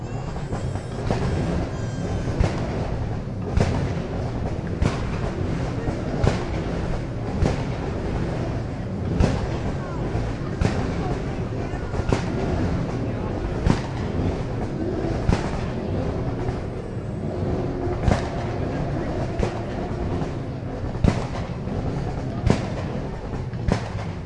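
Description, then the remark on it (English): Several supercar engines, including an Aston Martin V12, rumble together at a supercar display in a steady, loud, low roar, broken by sharp periodic pops and bursts over about twenty-four seconds, with no talking. “then, without any further ado, let's hear all of the cars one last time.”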